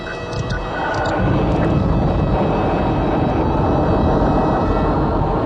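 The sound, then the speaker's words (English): A spacecraft's jet engine ignites, swelling within the first second into a loud, sustained rumbling blast that holds steady with no voices, as the craft jets toward the star city Imbria. “jet toward the Diaton star city, Imbria”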